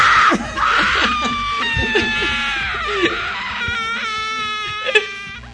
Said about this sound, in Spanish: Acá tenemos unas escenas de hace unos momentos del hall de la emisora cuando … estaba gritando